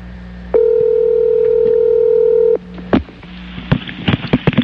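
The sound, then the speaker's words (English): A steady, buzzing dial tone holds for about two seconds and cuts off, followed by a click and a quick, uneven run of short keypad tones as a number is dialed to call Tiger Woods. “Let's call Tiger and find out what went wrong.”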